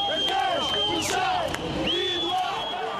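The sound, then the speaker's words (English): A large anti-government protest crowd in Thailand in 2013 roars continuously, with overlapping shouts and chants rising and falling, plus a steady high-pitched whistle tone running through much of it. “Like Thailand in 2013, Fuchs is there just as anti-government protests surge.”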